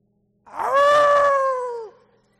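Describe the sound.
A preacher imitates a wolf's howl during a sermon about wolves: one loud, sustained tone that swoops up at the start, holds steady for over a second, then drops away. No other sounds accompany it.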